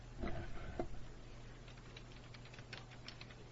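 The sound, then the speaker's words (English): Soft, irregular clicking of someone typing a list on a computer keyboard, the keystrokes quiet over a low steady hum, with a couple of duller knocks at the start. “I'm typing it in, yeah.”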